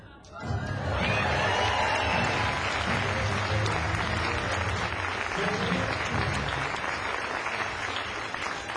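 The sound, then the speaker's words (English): A crowd bursts into sustained applause at the finish of a magic trick, dense clapping rising quickly after a brief quiet start and holding steady and loud throughout, with faint cheering mixed in. “For the grand finish, fling open the fabric and receive your well-deserved applause.”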